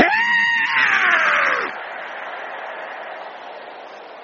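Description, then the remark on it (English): A crowd of people roars loudly together, imitating a lion, with one strained, rising cry on top at first, then a sustained wash of many voices that slowly fades. “Somebody roar like a lion.”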